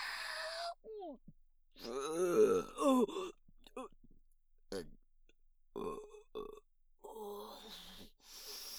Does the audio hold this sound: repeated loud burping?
yes